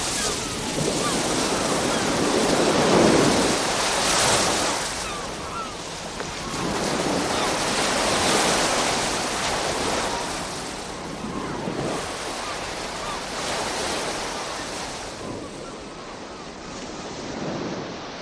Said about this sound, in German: Heute Morgen bin ich mit dem leisen Rauschen der Wellen vom Meer her aufgewacht, in einem Haus direkt am Strand.